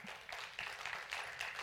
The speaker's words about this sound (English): Let's all stand as we celebrate and just give God a hand clap of praise. Amen.